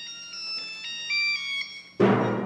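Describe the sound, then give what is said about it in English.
Audience cell phone ringtones at the start of an orchestra performance in Chicago: a bright, stepping electronic melody plays for about two seconds, then a sudden loud, dense burst of fuller sound cuts in and continues. “A Chicago orchestra began its performance last night with a sound that would normally be considered an interruption, the sound of cell phones.”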